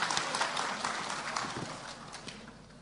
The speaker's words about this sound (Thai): ขอเสียงปรบมือต้อนรับคุณหมอพลเดชนะคะ